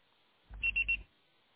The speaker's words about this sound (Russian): Пожалуйста, попробуйте перезвонить позже или оставьте свое сообщение после звукового сигнала.